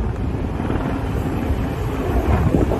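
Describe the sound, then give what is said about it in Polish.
A steady, loud propeller-engine drone from a Bombardier Q400 turboprop airliner on the airport apron, heavy in the low end with a rough, fluttering texture, mixed with some wind buffeting and no voices. “I tak, będziemy lecieli bombardierem Q400.”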